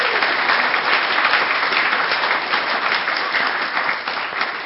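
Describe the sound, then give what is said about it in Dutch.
Steady applause from an audience for short plays performed that morning fills the whole stretch, a dense, continuous patter of many hands clapping with no pauses and no one speaking over it. “Mag je wel even voor klappen, vind ik, hoor.”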